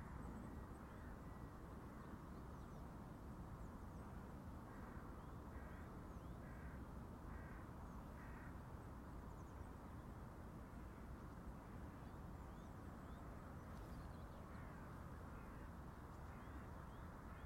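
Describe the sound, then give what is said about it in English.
A few crows in the trees of a wooded area caw in a short run of about five harsh calls, faint against a steady, rumbling outdoor background with no voices. “We'll just do a few faint. I think the crows in the trees and in the woody part.”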